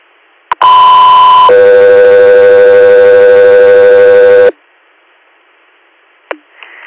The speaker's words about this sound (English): stand by for tones.